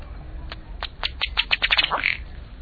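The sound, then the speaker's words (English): A male ruddy duck's display: a quickening run of dry ticking taps as he inflates his neck and strikes his chest with his bill, forcing air through the feathers so the water bubbles, ending in a short, croaky belching call as his head and tail jerk forward, over a faint low background rumble. “The male's display ends with his head and tail jerking forward and a low belching sound.”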